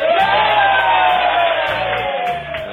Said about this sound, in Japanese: すごい拍手の量が伝わりましたでしょうか。現在この懇親会場に2万人はいると思います。2万人元気か。